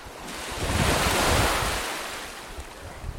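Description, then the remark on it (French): A wave swells and breaks on the shore at Ngor, a fishing village north of Dakar, with a broad hissing rush that peaks and slowly recedes, some wind rumble underneath and no voices. “Radju nous a donné rendez-vous un matin avant son entraînement de surf et on la retrouve donc à Ngor, qui est un village de pêcheurs”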